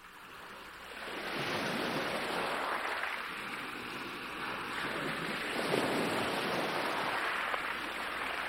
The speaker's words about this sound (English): The mesmerizing, rocking motion of the ocean has inspired all those who have ever come down to the sea.